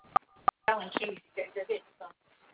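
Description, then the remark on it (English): Two short, sharp telephone keypad beeps sound in quick succession, followed by muffled talking that continues after the tones stop. “I can barely hear you because it's like keys are getting dialed, like you're dialing keys.”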